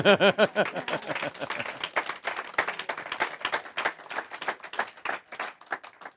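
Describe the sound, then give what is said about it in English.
An audience bursts into applause, with many overlapping claps forming a steady, crackling patter throughout. A short sung note fades out at the very start, and the clapping stays fairly loud to the end. “You can clap.”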